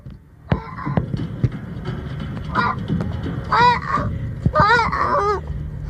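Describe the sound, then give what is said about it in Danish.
A spotted-looking seal pup calling, with a few short nasal, bleating cries in close succession, fairly loud, over a steady rumbling background of wind or surf. “Men virkelig nuttet lille sælunge, som altså siger sådan her.”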